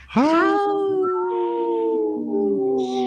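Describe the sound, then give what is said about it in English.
A single long wolf howl rises quickly, then holds a steady, slightly wavering tone for about three seconds. It sounds loud, with no talking. “Howl!”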